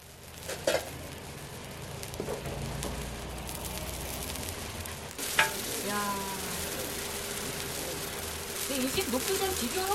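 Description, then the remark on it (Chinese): Thick mung bean pancakes sizzle steadily in a frying pan as an elderly woman of about eighty fries them in a small restaurant kitchen, a continuous crackling hiss with occasional clinks of utensils and faint background voices. “一位看起来有八十多岁的老奶奶正在小厨房里聚精会神地煎着煎饼，绿豆饼看起来很厚，让人垂涎三尺。”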